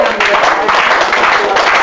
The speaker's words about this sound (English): Give Jesus a clap offering.